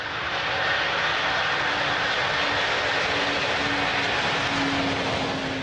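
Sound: airplane engine in flight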